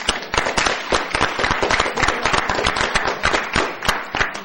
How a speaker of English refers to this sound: We're going to take a 5-minute break, but a big thank you. Can we applaud our guests, please?